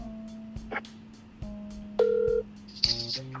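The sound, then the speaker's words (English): A few short electronic telephone keypad tones beep one after another at uneven intervals, clear, with a steady low hum underneath and no talking, as a caller on a phone call keeps hitting the phone's keys. “I'll get back to him on his phone”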